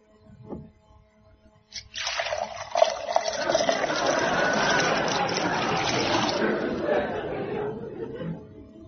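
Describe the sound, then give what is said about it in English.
Whiskey is poured into a glass in one steady splashing stream that lasts about six seconds before tapering off, after a brief soft knock at the start. “May I get you a drink?”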